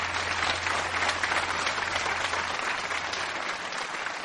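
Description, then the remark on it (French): A large concert audience applauds in the courtyard of the Château de Chambord, France, at the first Chambord festival, at about 8:15. The applause follows Luis Fernando Pérez's performance of Manuel de Falla's El amor brujo. It is a dense, even wash of many hands at constant loudness, with no voices standing out, tapering only slightly at the end. “Oh, il devait être à peu près 8h15 lorsque Luis Fernando Pérez terminait cet amour sorcier sous les applaudissements du public venu nombreux pour ce premier festival de Chambord.”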